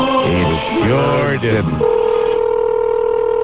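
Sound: outgoing phone call ringing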